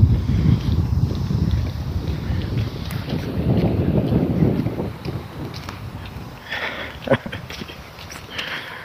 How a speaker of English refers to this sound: Oh, this is going to be nasty. The sprinklers are on in the park, and the wind is blowing the water off the park into the street and onto me. Yuck.